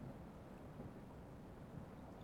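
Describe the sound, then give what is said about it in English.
A heavy storm roars steadily, with dense rain and gusting wind blending into a continuous low rumble that never lets up. No one speaks. “I didn't think the rain would be a full-on hurricane.”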